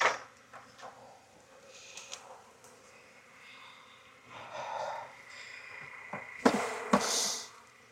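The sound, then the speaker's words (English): A steady, low drone of many honeybees buzzing at an open hive while a beekeeper inspects brood and pollen frames, with a couple of sharp knocks and rustles from hive handling near the end. No one speaks. “Another thing that's good to do while you found the queen, especially while you're shaking bees, is I can do a mite check too.”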